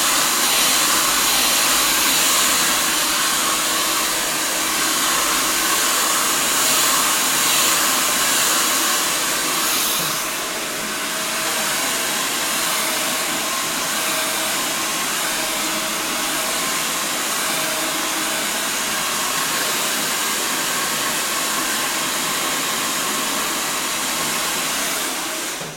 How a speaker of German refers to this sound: wir reden dann ja eh nicht, weil wir gegen den Föhn ja gar nicht anschreien können